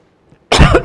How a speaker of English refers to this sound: Sorry, I'm battling with a cough.